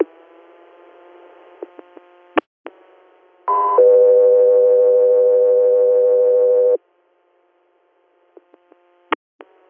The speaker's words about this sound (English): Castro Air, standby for tones.